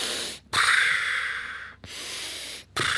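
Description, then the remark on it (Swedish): A voice mimics snoring with three long, breathy, rasping snores separated by short pauses, loud, with no talking in between, imitating relaxed, slightly overweight older men asleep on a train with their legs apart. “Det var någon smart person där som hade sett hur farbröderna som satt på tåget, lite överviktiga med benen isär, och hade somnat, att de var totalt avkopplade och de satt och snarkade så här.”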